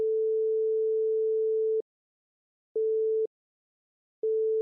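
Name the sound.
telephone dial tone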